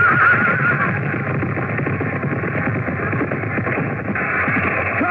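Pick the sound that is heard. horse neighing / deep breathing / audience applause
horse neighing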